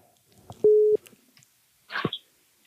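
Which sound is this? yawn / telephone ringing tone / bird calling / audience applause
telephone ringing tone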